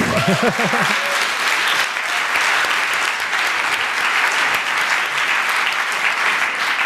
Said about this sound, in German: Genau, und übrigens hat er mir Swift beigebracht, deswegen einmal ganz kurz einen großen Applaus für ihn.